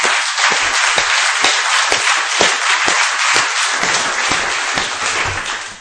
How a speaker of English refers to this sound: First, I would like to give all the speakers that spoke another hand of applause, please.